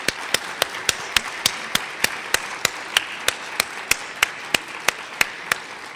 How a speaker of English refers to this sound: Let's just have a round of applause for our two speakers.